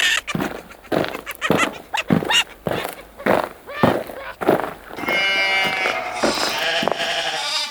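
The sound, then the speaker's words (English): Sheep bleat repeatedly in quick, wavering bursts, fairly loud, with a steadier, drawn-out tonal sound filling the last few seconds. “It's the wild yeast, the sheep, and Mr. Quince and the Medlars.”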